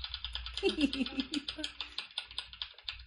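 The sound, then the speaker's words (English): A spinning prize wheel, spun to decide who goes second, clicks rapidly, the sharp ticks gradually spacing out as it slows toward a stop, with a brief murmur of voices near the start. “So then are we going to spin to see who goes second?”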